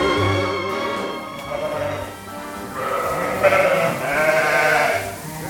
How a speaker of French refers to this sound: C'est des lacona, race lacona. Race lacona, ouais. Et nous, on a des brebis cool, elles font pas beaucoup de bruit. Ça, c'est quand elles sont heureuses.